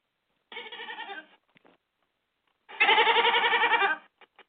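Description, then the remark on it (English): A goat, Jacob the Goat, bleats twice, first a shorter wavering call, then a louder, longer quavering bleat after a pause, with a few faint clicks between. Clear, no talking. “Jacob the Goat says he loved the Bible study.”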